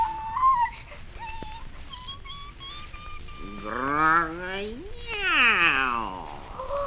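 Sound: cat meowing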